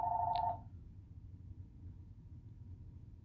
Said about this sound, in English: Oh, sorry. Sorry, sorry. Just ignore the phone ringing. I'm so sorry about that.